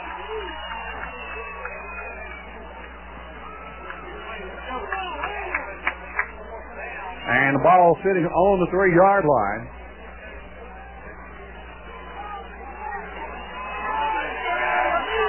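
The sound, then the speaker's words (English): A football stadium crowd roars steadily in the background of a radio-quality broadcast of a fourth-and-goal play, swelling loudly for a couple of seconds midway, while an announcer talks over it. “And you hear the crowd up with two tight ends.”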